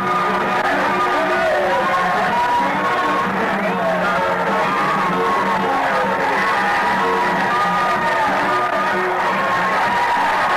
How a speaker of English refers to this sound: Then Mr. Finley and I got off. Crowd started yelling. The band started playing, and the mayor came forward to greet us.